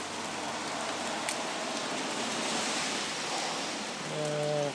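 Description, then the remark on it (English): Steady rain falls outdoors among geraniums and roses during a thunderstorm, a dense hiss of drops spread across the whole clip, with a brief low tonal hum rising near the end. “Makes them more nice in the rain.”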